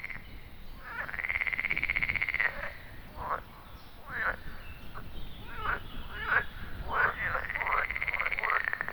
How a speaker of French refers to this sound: Chaque année, ces endroits deviennent le théâtre d'un cycle immuable. Les grenouilles et les crapauds, comme le crapaud commun, y reviennent pour se reproduire.